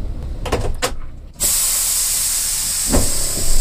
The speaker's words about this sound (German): Langsam setzt sich die Lok in Bewegung. Sie rollt auf das Gleis, auf dem der Güterzug nun abgestellt ist.